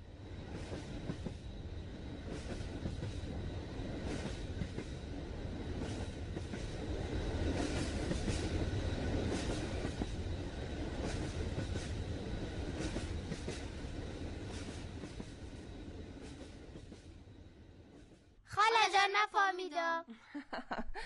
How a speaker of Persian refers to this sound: صدای رد شدن قطار از ریل بود. آفرین درست است.